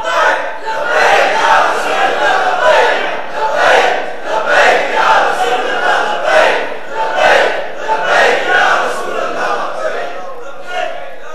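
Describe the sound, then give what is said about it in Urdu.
A large crowd chants the Labbaik slogan in loud, rhythmic bursts, many voices rising and falling together in a steady repeating cadence with no pauses. “یہ لبیک کے نعرے کے اندر یہ پختگی اور یہ ولولہ, یہ تنتنا اور یہ سحر انگیزی یعنی جادو, کہ یہ نعرہ ایسا ہے کہ جو سنے سنتا ہے تو پھر پریشان بھی ہوتا ہے جو غیر ہوتا ہے, اور جو عاشق ہوتے ہیں وہ آدھا گھنٹہ بھی لگائے تو وہ کہتے ہیں ابھی ختم کر دیا”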